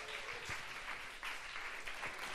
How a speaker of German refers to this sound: Großen Applaus